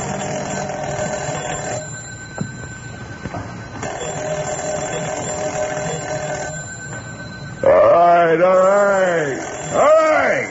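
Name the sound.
telephone ringing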